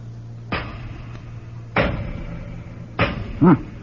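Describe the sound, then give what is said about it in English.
Three heavy, evenly spaced thuds of a hammer striking a thick, solid door, each blow booming and briefly ringing, with a short vocal grunt after the last strike. “Let's see how thick they are. Throw me a hammer, will you?”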